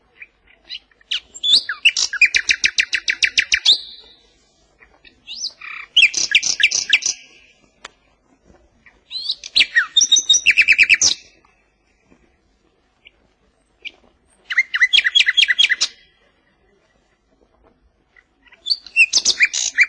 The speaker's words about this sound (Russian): Сейчас я включу запись западного соловья. Песенка его округла, нежна, даже несколько меланхолична.